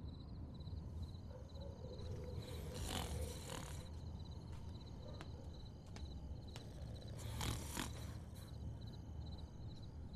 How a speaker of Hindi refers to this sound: क्यों खर्राटे की आवाज आने लगी? वो सो नहीं रहा इस वक्त, वो कोमा में है।